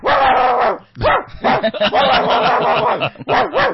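A dog barks loudly in a rapid, almost continuous string of harsh, drawn-out barks with a few brief pauses between them; no one speaks.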